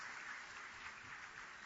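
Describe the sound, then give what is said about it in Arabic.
A crowd applauds steadily for a man, a dense wash of many hands clapping at once with no pauses, sustained throughout the short stretch. “ما شاء الله صفقوا له صح، هذا جاهز.”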